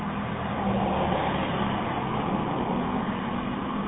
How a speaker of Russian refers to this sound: Машина мимо приезжает.